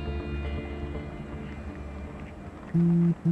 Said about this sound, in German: Forstalls Telefon brummt auf dem Tisch vor ihm.